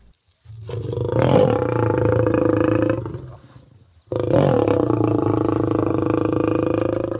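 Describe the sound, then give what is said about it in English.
A lion growls and roars twice, two long, loud, rumbling bursts separated by a brief pause, each deep and throaty with a raspy edge. “They do not growl like a lion.”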